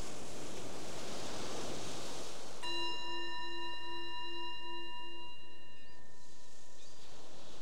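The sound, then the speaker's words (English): A single meditation bell is struck and rings out clearly, its pure tone sustaining for several seconds before fading, over a steady wash of ocean-like background noise. “So the bell invites us to bring the awareness back to the surface, to our surroundings, the opportunity to just reflect on your experience, how it is right now, how you feel after that exploration.”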